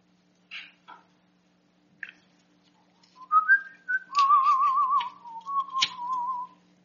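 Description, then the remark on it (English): After a few soft scattered noises, someone whistles a short, wavering tune: sliding notes, then a trilling warble and a held tone, over a faint low hum. “Did I hear an angel whistling?”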